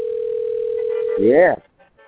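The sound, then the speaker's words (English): A telephone rings on the line, heard as a steady, unbroken electronic tone lasting about a second before a voice cuts in briefly and the line goes quiet. “It's ringing.”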